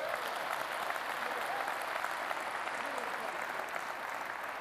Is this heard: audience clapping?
yes